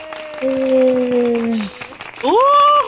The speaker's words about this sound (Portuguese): Palmas pra ela!